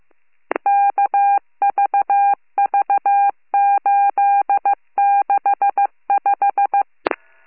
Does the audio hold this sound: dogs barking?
no